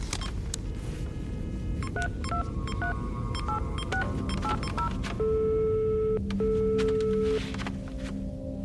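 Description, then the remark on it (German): A rapid series of short keypad beeps as a mobile phone number is dialed, followed by two long, steady ringing tones with a brief pause between, against a faint background hum. “Ich muss Richard anrufen”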